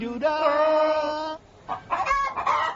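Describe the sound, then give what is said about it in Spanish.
A hen lets out a loud, drawn-out squawk, then a short pause and a burst of quick, choppy clucks, with no voices. “Cualquiera podría venderte la gallina de los huevos de oro.”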